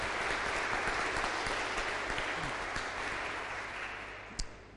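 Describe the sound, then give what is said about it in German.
A church audience applauds to welcome a new parish intern on Cantate Sunday, a dense wash of many hands clapping at a fairly even loudness that slowly tapers toward the end, with one sharper clap standing out near the close. “Wir begrüßen auch ihn mit einem Applaus.”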